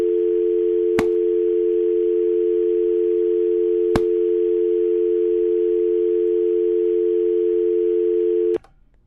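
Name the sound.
telephone dial tone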